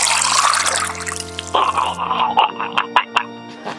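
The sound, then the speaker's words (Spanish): Sloshing of holy water being swished around a mouth, then a wet, bubbling gargle with throaty voiced tones and short bursts, fairly loud with no talking. “Ok, primero va a ser unos buches y unas gárgaras de agua bendita para que se le quite de andar de hocicón”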